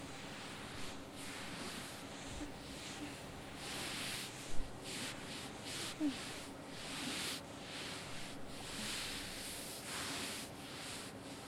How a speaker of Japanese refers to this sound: 拭き足りないところとかはありますか？